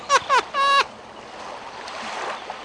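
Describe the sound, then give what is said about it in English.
Soft, steady ocean water lapping at an island fills the background, preceded by three short, harsh cries at the very start, like seabird calls, with no talking. “With that sound, I know that they're by an ocean.”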